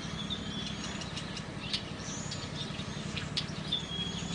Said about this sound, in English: And the birds.